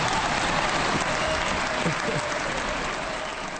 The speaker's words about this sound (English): Many, many points in that speech, but that remark really got a lot of applause.